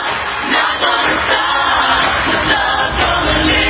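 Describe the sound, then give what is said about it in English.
A crowd at the Grammys applauds steadily, a dense, continuous wash of clapping that stays loud and even throughout, with no voices standing out. “They're just showing the crowd clapping.”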